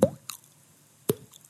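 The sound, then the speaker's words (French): A voice imitates water drops with the mouth: two sharp, hollow plops about a second apart, each with a quick upward pitch glide, plus a faint click between them. “Une goutte.”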